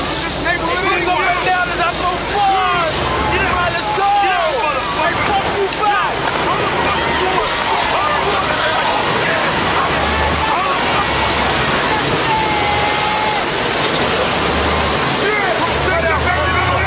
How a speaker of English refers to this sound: Two black kids, they soaked me with the fire hydrant.